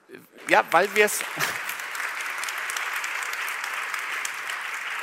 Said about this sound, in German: Jetzt mal wirklich alle, die frenetisch klatschen, mal fragen, wie wollt ihr es denn dann regeln?